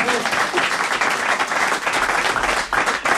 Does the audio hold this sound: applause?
yes